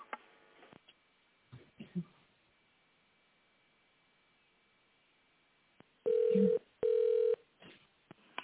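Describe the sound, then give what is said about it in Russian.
Two loud, steady telephone keypad (DTMF) tones, each about half a second, sound in quick succession over a quiet, hissy phone line as an extension number is dialed in tone mode, followed by faint clicks and rustling. “Наберите внутренний номер в тоновом режиме или дождитесь ответа секретаря.”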